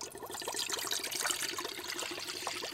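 Water bubbles and splashes steadily as chicken is put into a pot of boiling water in a kitchen, a busy, crackling liquid texture, with no voices.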